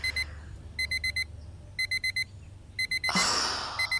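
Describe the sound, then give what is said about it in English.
A phone alarm beeps in quick bursts of four high electronic tones, repeating about once a second over a low steady hum, with a loud rustling whoosh breaking in near the end. “Damn it, whose phone is that? Yours or mine?”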